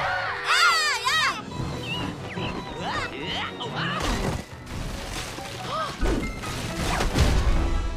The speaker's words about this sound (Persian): هرچی که صدای جیغ باشه.